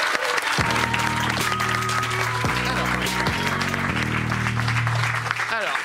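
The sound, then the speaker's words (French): Steady, loud applause from an audience fills the whole stretch, dense and continuous, with sustained musical chords playing underneath. “Venez, j'applaudis.”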